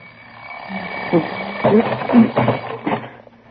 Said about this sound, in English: The alarm clock broke it up just when it was getting good.